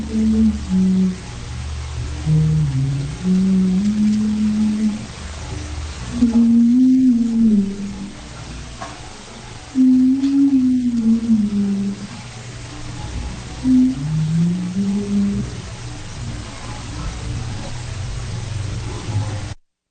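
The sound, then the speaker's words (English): A woman hums a slow, wandering melody, with a few soft thumps and shuffling sounds of movement in the background, as though she is walking around a room, over a steady low hiss. “It's a woman humming, and oh yeah, I can hear movement clearly in the background, as though she's walking around a room humming.”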